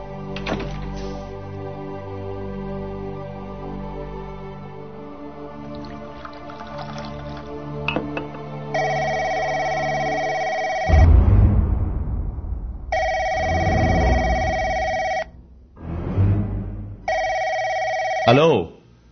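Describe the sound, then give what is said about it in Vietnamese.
A telephone rings three times in steady bursts with short pauses between, loud, following a stretch of low, muffled background sound. “Alo. Xin lỗi, ông nhầm số rồi.”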